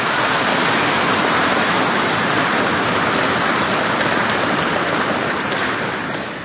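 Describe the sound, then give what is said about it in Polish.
An audience applauds a spoken-word and music programme by the parish of Godziszów, with violin, parish schola and parish choir, in a steady, dense wash of clapping that holds at an even loudness for several seconds, then begins to taper off at the end. No one speaks over it. “Jeszcze raz serdecznie gorące brawa za ten program, który usłyszeliśmy.”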